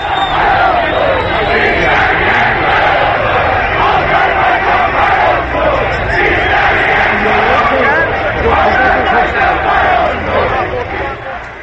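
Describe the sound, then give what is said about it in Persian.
A large stadium crowd in Tabriz chants slogans in Turkish, a loud, dense roar of many voices that keeps going steadily for the whole stretch, with shouts rising and falling in rough rhythmic waves. “بله، یه شعارهای ترکی هم توی تبریز میدادن.”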